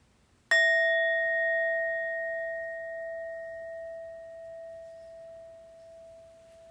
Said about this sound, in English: And so let's listen to the bells to take us into our sitting.